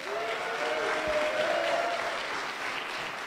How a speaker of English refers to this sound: so everybody give her a round of applause.